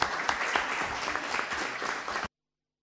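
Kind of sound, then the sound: crowd, clapping hands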